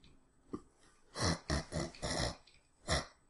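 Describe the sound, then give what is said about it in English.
A person imitates an alpha wild boar with a series of rough, throaty grunts: a faint one, then five loud, harsh snorting bursts in an uneven rhythm, with no talking. “But yeah, it's really grunting hard at you.”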